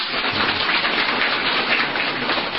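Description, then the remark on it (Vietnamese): An audience claps steadily for a singer's performance, a dense, even wash of many hands that holds at a constant, fairly loud level throughout, with no voices over it. “Xin quý bà con cô bác cho tràng pháo tay.”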